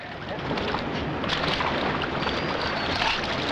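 Water splashes and sloshes steadily as someone douses himself at a river's edge, a dense, close wash of liquid sound with a few sharper splashes throughout.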